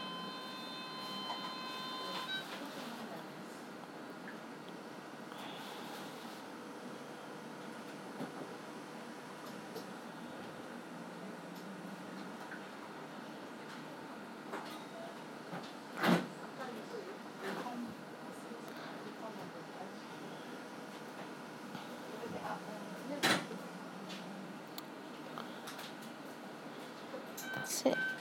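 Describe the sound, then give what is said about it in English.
An automatic blood pressure cuff inflating, its small pump motor whirring steadily for a long stretch, with a couple of sharp clicks partway through. “Oh, this goes my blood pressure again.”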